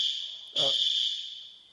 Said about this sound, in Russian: Сейчас проверю сигнализацию.